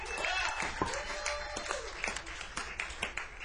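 An audience at the Duende jazz club applauds in a steady, dense wash of clapping for several seconds, with a few sharper claps and what may be a voice or whoop rising above it.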